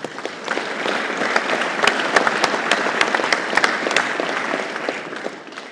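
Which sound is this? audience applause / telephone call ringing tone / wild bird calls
audience applause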